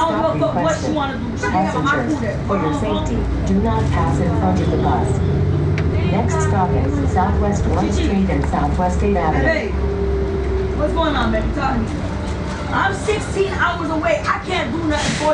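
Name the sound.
city bus interior ambience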